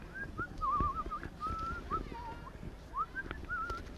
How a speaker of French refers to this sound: Ce jour-là, l'écureuil, il est en train de se limer les ongles, tranquillement, en sifflotant.